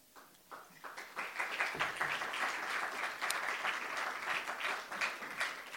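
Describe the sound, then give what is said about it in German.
Audience applause, started by the organizers and then joined by the rest, rises quickly into a dense, steady wash of many hands clapping, sustained at a fairly loud level for several seconds with no voices standing out. “Ist immer schön, wenn die Orga als erstes klatscht, damit der Rest dann gefangen ist in diesem Sozialkonstrukt.”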